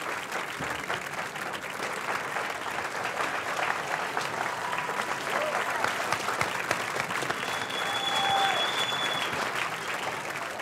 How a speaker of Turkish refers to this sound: Böyle alkışlar üstünde gitti kız ya.